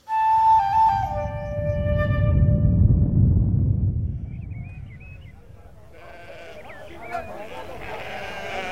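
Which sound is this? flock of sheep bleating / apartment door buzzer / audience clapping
flock of sheep bleating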